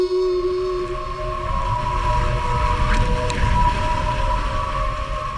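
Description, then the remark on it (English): A hydrofoil boat's foils give off a steady, high-pitched whine with layered tones, sustained throughout over a loud, low rumble of water and motion. No one speaks. “these hydrofoils have their own acoustic signature.”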